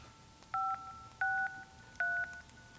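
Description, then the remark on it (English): Three distinct telephone keypad tones beep in sequence as a phone number is dialed, each a steady dual-pitch tone held about a quarter second or longer, clear, with a faint background hiss between presses. “This nigga will not motherfucking pick up the phone, man. Gave me this fucking number, man.”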